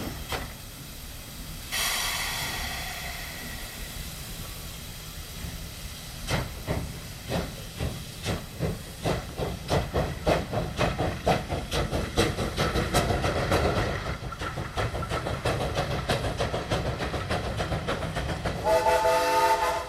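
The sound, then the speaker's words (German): Steam locomotives from the 1920s labour with rhythmic chuffing and hissing steam bursts as they push loaded wagons, which rumble and clank as the pace builds steadily, a brief whistle-like tone near the end; no one speaks. “Hinten schieben Dampfloks aus den 20er Jahren unablässig die beladenen Waggons heran.”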